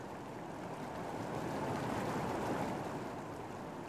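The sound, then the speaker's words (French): A steady, broad rush of falling water roars continuously from a waterfall in the desert at Palm Springs, with no voices and little change in loudness throughout. “Une cascade. Au milieu du désert, on se baigne.”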